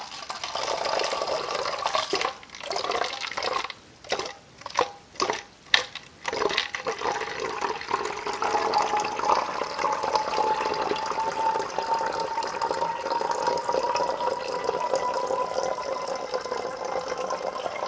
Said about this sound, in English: This stuff mixes pretty good. It's concentrate, but it's in liquid form. The powders obviously would take more time and effort to mix at 20 degrees. So now I'm just pouring out of the beaker carefully, very carefully.